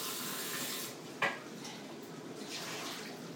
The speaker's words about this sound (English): So I'm just putting 3 cups of water into the steamer. That's it.